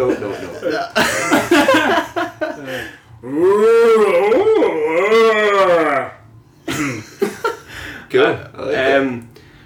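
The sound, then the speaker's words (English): People imitate two cows mooing while making love, with one long, wavering, overlapping moo in the middle, surrounded by shorter rough vocal bursts and breathy sounds. “I want the best impression possible of 2 cows making love.”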